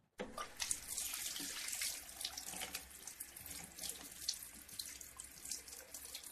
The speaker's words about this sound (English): Is it someone tipping out a bottle of water? No way. There's movement and action. Someone having a shower? No. Washing their hands? Yes. Well, I thought I could hear a little crinkle of plastic.